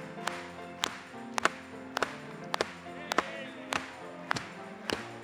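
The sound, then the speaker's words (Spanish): A group claps in a steady, rhythmic beat, sharp hand claps landing about every half second, with sustained voices or music humming underneath throughout. “Vamos a aplaudirle.”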